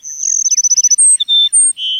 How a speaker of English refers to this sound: One such bird is the Cassin's Sparrow, whose sweet song floats across the grassland country of South Texas.